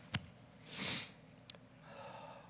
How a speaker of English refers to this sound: Help me to stop sniffling up here, Father.